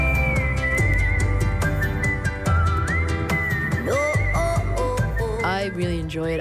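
A whistled melody rides high over a full pop band backing, clear and sustained with gliding pitch bends, loud and upfront in the mix, no voices talking.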